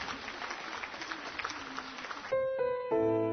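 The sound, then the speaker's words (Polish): A burst of steady crowd applause offered to God at the close of a prayer, dense and fairly loud, which gives way after about two seconds to sustained tonal notes, like an organ or keyboard chord, held to the end. “Te brawa są dla Ciebie, Boże miłosierny, który wzywasz nas w głąb.”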